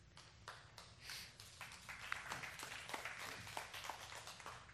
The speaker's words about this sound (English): For the six of you that clapped, you can split this Hershey syrup straight in the mouth.